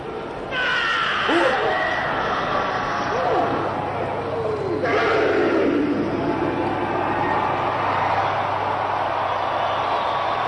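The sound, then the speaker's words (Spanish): A stadium crowd in the stands shouts in a loud, continuous roar that surges twice, with strained voices rising and falling in pitch through the dense wash of noise. “A ver si acercan el micro y se les oye gritar.”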